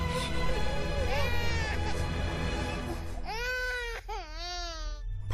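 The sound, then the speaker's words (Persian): Loud wailing cries rise over a steady noisy background, starting faintly and then breaking into several strong, drawn-out sobbing bursts toward the end. “بپر خواهش میکنم گریه نکن. ببخش ببخش فقط گریه نکن باشه.”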